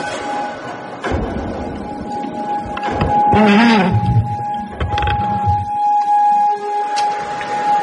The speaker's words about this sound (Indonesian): Dalam keheningan malam di kosanku itu, tiba-tiba saja aku mendengar suara ketukan keras dari arah pintu.